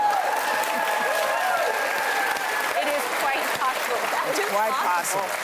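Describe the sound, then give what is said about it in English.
A large audience applauding steadily for several seconds, a dense, continuous wash of clapping with scattered whoops and voices mixed into the crowd noise. “She comes in with that thing, and then everybody claps, and that's it.”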